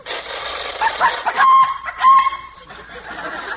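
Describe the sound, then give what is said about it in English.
A chicken in a compartment clucks and squawks in quick, agitated bursts, rising into a couple of brief, strained crowing calls, fairly loud, with no talking over it. “What did you pack? Chicken. Where is it? Right here in this compartment.”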